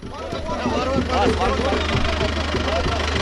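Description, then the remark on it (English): A heavy truck engine idles with a steady low rumble and vibration while several people talk indistinctly over it, as the first trade trucks, carrying fruits, rice and spices, cross the line of control in Kashmir between Pakistan and India. “Shahnawaz Khan traveled to the line of control to witness the first trucks rolling across the de facto border”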